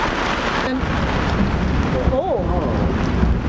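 Steady heavy cold rain and gusting wind of a thunderstorm in the Czech Republic roar as a broad, constant wash of noise, heard while driving, with a brief rising and falling tone partway through; no distinct thunder clap stands out.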